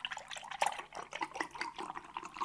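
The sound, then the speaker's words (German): Milk streams into a glass with a bubbling, gurgling splash, the pitch rising slightly as it fills, steady and moderately loud for a couple of seconds with no talking. “zunächst gibt es zur Entspannung ein Glas Milch.”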